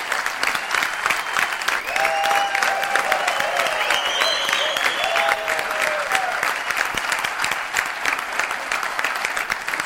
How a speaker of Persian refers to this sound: یه دقیقه تشویقش بکنم.